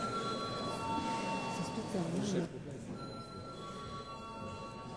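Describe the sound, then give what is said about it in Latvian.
A voting bell in the Saeima parliament sounds before a vote as a steady, high electronic ringing tone, loudest for the first two and a half seconds, with murmuring voices underneath throughout. “Lūdzu zvanu.”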